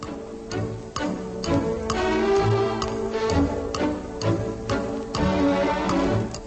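A clock ticks steadily at an even pace, each tick sharp and distinct, layered over sustained musical tones that play throughout at moderate volume.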